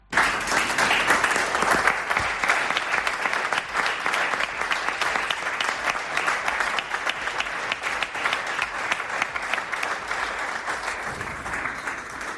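Sustained applause from Albacete Balompié players, coaching staff, club personnel and press as coach Rubén Albés says farewell: dense steady clapping that holds at an even loudness for about twelve seconds, with no talking over it.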